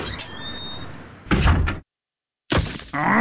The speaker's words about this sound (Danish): Et stenslag!